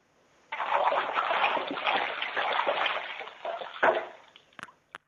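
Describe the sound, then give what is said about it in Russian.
A person taking a bath kicks their feet and splashes in the bathwater of a bathtub for several seconds, a dense run of sloshing and splattering that swells and eases, ending with a few last drips and small splashes. “А ты можешь побултыхать ногами в ванной сейчас, как следует?”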